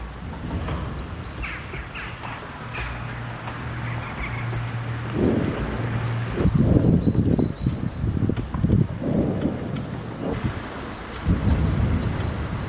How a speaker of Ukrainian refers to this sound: Вон так зараз в Авдіївці це виходить. Скоріше за все, Градів. Летить кудись на позиції Збройних сил України.